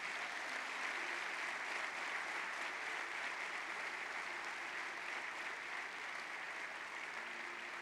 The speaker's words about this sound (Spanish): Puedes dar un aplauso al Señor entonces.